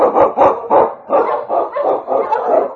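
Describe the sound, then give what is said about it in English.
King, an Eskimo husky lead sled dog in the radio show Challenge of the Yukon, barks repeatedly in quick succession, loud, with about seven or eight sharp woofs in a steady, eager rhythm and no talking. “The Water Dog King, swiftest and strongest of Eskimo lead dogs, blazes the trail through storm and snow for Sergeant Presson as he meets the Challenge of the Yukon.”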